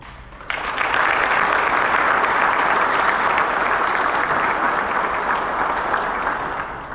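A large audience breaks into sustained applause in response to a speech declaring that the era of impunity and financial recklessness must end, a dense, steady wash of clapping that starts abruptly after a brief quiet moment and holds strong throughout, easing only slightly at the end.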